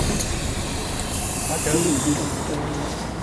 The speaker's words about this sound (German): Zweimal sind wir mit dem Bus gefahren, damit wir auch dieses Geräusch endlich herbekommen.